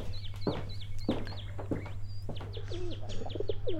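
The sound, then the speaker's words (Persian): Pigeons coo and burble, mixed with bright chirps and short clucking calls in a busy, overlapping stream, over a steady low hum. “این چند کبوتر حسابی خودتان هم مصروف ساخته؟”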